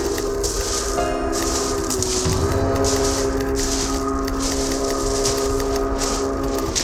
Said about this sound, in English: Sounds like my last train coming down these tracks.